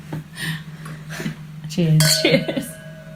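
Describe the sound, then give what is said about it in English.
Wine glasses holding Morgon Classique 2017 red wine clink together once in a toast, bright, leaving a short ringing tone that fades. Soft voices murmur before it over a steady low hum. “Cheers. Cheers.”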